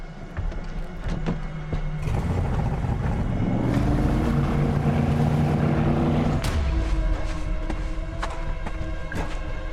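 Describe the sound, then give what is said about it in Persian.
A motorboat engine drones steadily across the water, its pitch rising as it revs up and passes by, then dropping off abruptly, with scattered knocks and splashes around it. “اونجا یه قایق میبینم.”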